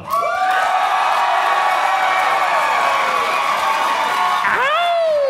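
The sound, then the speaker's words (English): A large audience erupts in loud, sustained cheering and applause, voting by applause for Ulla on an applause meter, with whoops and shouts filling the whole stretch before easing slightly near the end. “Let's switch over the applause meter, and let's find out who out there, by applause, is voting for Ulla.”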